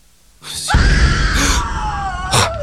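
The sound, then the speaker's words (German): A single loud, sustained scream from one person somewhere in a house, starting abruptly and holding a high, strained pitch for about two seconds before breaking off, with faint breathy noise around it. “Bob brauchte ein paar Sekunden, bis ihm klar war, was dieser Schrei bedeutete.”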